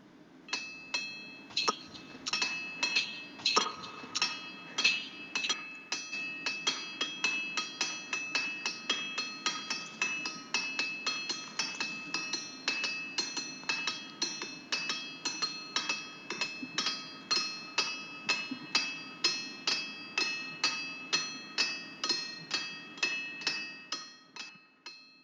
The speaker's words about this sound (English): That's the Ringing Rocks in Pennsylvania. It is the Ringing Rocks in Pennsylvania.